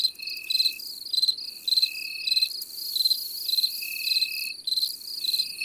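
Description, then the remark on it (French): A cricket chirps steadily by rubbing its wings together very fast, in rapid, high-pitched pulsing bursts, clear, with a faint continuous trill beneath and a soft low background hum; no voices. “Pour chanter, il frotte ses ailes l'une contre l'autre, très vite, et ça donne ce joli son de grelot qu'il répète pendant des heures.”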